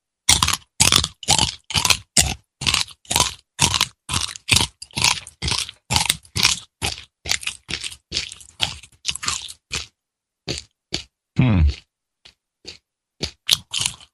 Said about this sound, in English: Yeah, tastes like poo. John C. Dvorak eating a cricket.